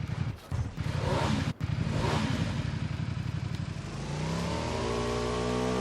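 A motorcycle engine roars loudly with a rough, rapid rumble, then revs upward in a rising, sustained whine near the end. No voices are heard.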